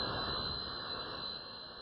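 A rock group's own private jet engine roars steadily at Tampa Air Center at Tampa International airport, its high, piercing turbine whine sustained over a broad rushing hum, constant with no voices.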